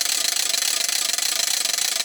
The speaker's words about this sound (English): We call this a rattle trap, and all this noise is generated from a tongue depressor and this little cogged wheel here. I tell them it sounds better in a van.